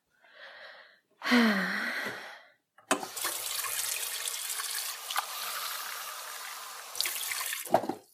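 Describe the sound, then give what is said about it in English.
A brief splash with a rising, filling tone, then a steady rush of water from a tap running into a glass for several seconds before stopping, fairly loud with no voices. “Yeah, I could use a glass of water.”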